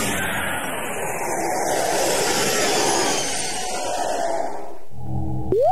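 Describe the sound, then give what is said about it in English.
A spaceship landing on Mars: a loud, continuous roaring rush with sweeping whistling tones, which cuts out near the end into a brief low hum and a quick rising electronic whine. “Hold tight, we're coming into land.”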